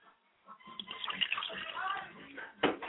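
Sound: water poured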